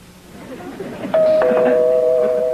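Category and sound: household object, doorbell ringing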